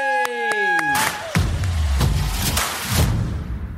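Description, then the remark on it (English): A short burst of tonal notes gives way to loud, dense crowd clapping and cheering for England captain Chris Robshaw that rolls on steadily for nearly three seconds, with thumps scattered through the noise. “So I want everyone to give it up, clap, cheer, go absolutely mad for the one and only Chris Robshaw, ladies and gentlemen.”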